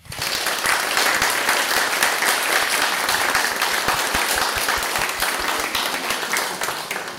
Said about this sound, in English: We present you also with this certificate of baptism commemorating this day here in the church. We'll have a round of applause.